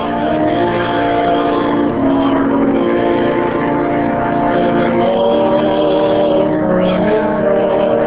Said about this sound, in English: The 100-year-old pump organ drowns the sound of rain drumming on the roof as an impromptu solo entertains the group.